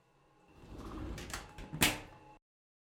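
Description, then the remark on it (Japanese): A bathroom door opens onto a changing room with a rising rumble and a few knocks, ending in a sharp latch-like clack before abrupt silence; fairly loud, no voices. “風呂場のドアを開き、脱衣所に置いてあった携帯を彼は手にした。”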